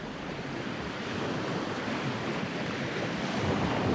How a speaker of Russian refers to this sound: Буря сильна.